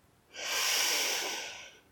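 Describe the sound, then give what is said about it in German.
A single long, deep breath drawn in through the nose during a guided breathing exercise, a soft airy hiss that swells and holds for over a second before fading, with no talking. “Wir atmen nochmal gemeinsam ein,”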